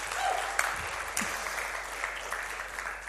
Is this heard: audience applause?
yes